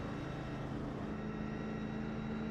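A car engine drones steadily at a constant pitch and loudness as a car is driven around a race track, with a continuous rumbling hum and no voices.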